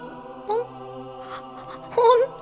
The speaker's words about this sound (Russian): ну не плачь, пожалуйста.